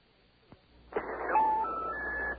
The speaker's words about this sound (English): All right, we got our outside line. And we're going to dial the area code here. And the phone number. And here we go.